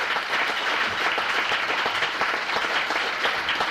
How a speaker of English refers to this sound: We are celebrating his life. So let's give him a hand clap.